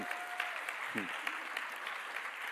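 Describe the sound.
Steady applause from an audience fills the room, a dense wash of clapping hands with a brief voice and whistle-like tone poking through near the start.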